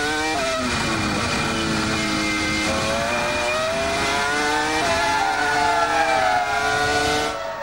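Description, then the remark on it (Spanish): A loud, high-revving Formula One engine screams, its pitch climbing and dropping through gear changes as the car passes, sustained throughout with no talking; the car of Colombian driver Juan Pablo Montoya, running fourth during a race. “Ahí va el piloto colombiano al que siguen las cámaras de la televisión norteamericana.”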